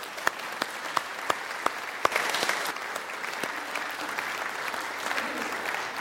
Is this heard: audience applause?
yes